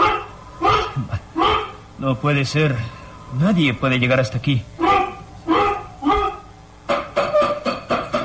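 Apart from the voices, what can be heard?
dog barking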